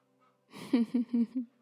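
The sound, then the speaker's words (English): Ducks quack outside in a quick burst of four nasal, rasping calls, evenly spaced and moderately loud, with no one talking over them. “Maybe while the ducks are quacking and Peppy's patrolling the perimeter”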